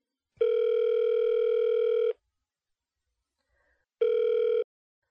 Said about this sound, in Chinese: 现在我要给我老公打电话了哟。